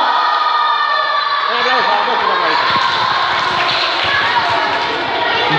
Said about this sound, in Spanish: ¡Show! ¡Un aplauso! ¡Un aplauso!